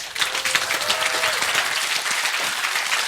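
Steady, dense applause from an audience, many hands clapping loudly and continuously for about three seconds, with a faint brief whistle-like tone rising above the clatter early on.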